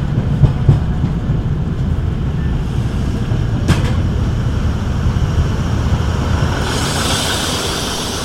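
A passenger railcar rumbles steadily along the tracks, with a few sharp clacks from the rails and a brighter hiss of wheels rising near the end. Loud, with no voices.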